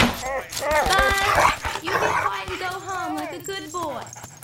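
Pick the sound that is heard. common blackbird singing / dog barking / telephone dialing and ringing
dog barking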